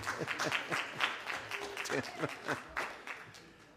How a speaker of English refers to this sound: All right. How about just giving you an applause?